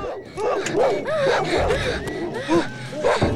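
A large Alsatian dog barks and yelps over and over, loud, in a busy, agitated burst with a whining, howling edge between the barks, as it leaps onto a car bonnet.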